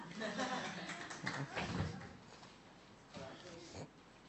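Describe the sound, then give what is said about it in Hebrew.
A crowd claps for the presenter in a dense, steady patter for a few seconds, with voices murmuring and talking over the applause. “חיות כפיים למציג.”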